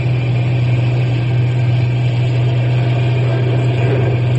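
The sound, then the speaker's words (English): A truck engine roars steadily as the truck is driven as fast as it will go to escape a grizzly bear, a loud continuous low drone with rumbling vibration and road noise that holds even throughout, with no voices. “Step on the gas.”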